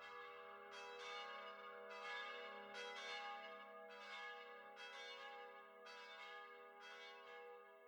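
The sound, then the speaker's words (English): Church bells peal continuously in overlapping, steady strikes, their bright ringing tones layered and sustained over several seconds with no voices present. “The church bells ring.”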